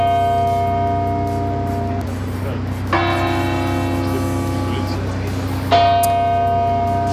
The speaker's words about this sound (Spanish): La jornada ha comenzado a las 9 de la mañana con el tañido de las campanas de todas las iglesias de la región, una iniciativa promovida por el arzobispo de Madrid, José Cobo.